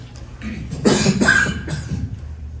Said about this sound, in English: That is coughing, coughing in case anybody's watching.